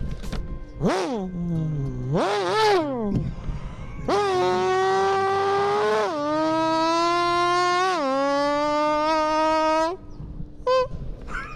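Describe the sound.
A buzzy imitation of a hot pink Lambo's engine, made by holding a piece of paper over the mouth with both hands and using it as a reed: two quick rising-and-falling revs, then a long, loud droning buzz that steps down and climbs again like gear shifts, ending with a brief blip.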